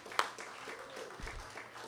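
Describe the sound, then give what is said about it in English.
Audience applause, a dense crackle of many hands clapping at a steady moderate level, with one sharper clap near the start and faint voices mixed in. “So, let's hear a round of applause for all of you above average people here.”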